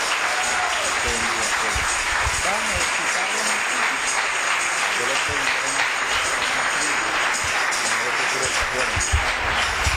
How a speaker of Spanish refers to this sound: Bien, bríndele ese aplauso a Cristo.